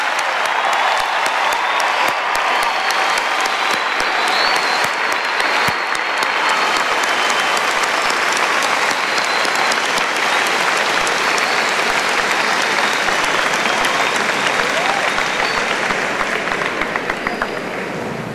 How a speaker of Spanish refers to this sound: En este momento, yo invito a los sacerdotes egresados del Seminario Mayor San José y a los seminaristas presentes a ponerse de pie. Y a todos ustedes los invito a darles un fuerte aplauso.